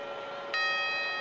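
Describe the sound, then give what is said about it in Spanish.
A clock tower bell strikes the first of the quarter chimes, which follow the warning strokes. Its bright ringing tone is layered over the lingering hum of an earlier stroke, loud and resonant with no one talking. “Después de este aviso, los cuartos. Muy bien. Primer cuarto.”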